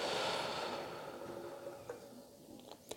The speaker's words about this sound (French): Je place mon attention sur mes pas, ma respiration. Je prends une profonde inspiration. Et j'expire lentement.